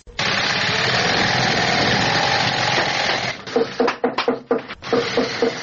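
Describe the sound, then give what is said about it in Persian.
In a shoe factory in Kabul, Afghanistan, a shoe-sewing machine motor whirs steadily and loudly, then gives way to a quick series of sharp, rhythmic knocks as workers hammer, before the mechanical drone resumes. No one speaks. “یکی از کارخانه های تولید بود در شهر کابل که کارگران آن با دلسردی تمام و نامید از یک آینده روشن چکش می زنند و چرخ ماشین های بودوزی را با صدا در می آورند.”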